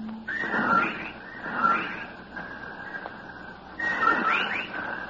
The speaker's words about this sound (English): While outside the window, a legion of whippoorwills cried loudly and rhythmically, endlessly.